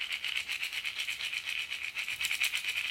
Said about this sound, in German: Und das Laub rascheln.